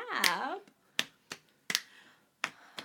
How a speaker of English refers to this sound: Oh, a snap.